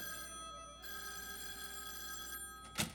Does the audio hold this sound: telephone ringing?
yes